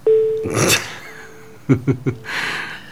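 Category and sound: signal or alarm, telephone number being dialed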